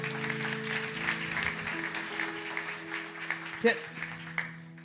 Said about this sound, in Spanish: Damos un fuerte aplauso.